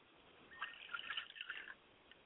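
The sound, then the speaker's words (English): A short pour of liquid as a libation offered to the African God Akamare, also known as Oludulamare, on holy ground: a soft trickling splash with bright bubbly blips lasting about a second, fairly faint against a quiet hiss, with no voices. “We pour libations to Akamare.”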